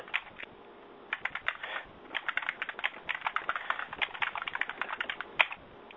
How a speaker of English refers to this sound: typing furiously.